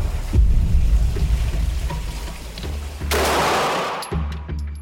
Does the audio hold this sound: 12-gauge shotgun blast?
yes